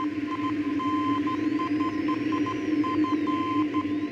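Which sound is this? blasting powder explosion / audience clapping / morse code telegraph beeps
morse code telegraph beeps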